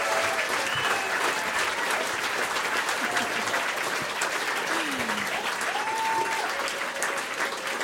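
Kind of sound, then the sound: crowd, concert audience applause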